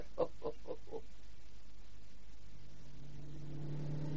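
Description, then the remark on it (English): A few quick honking toots, then a car engine that builds into a steady, rising rev, its low rumble swelling toward the end. No one speaks. “I loathe motor cars.”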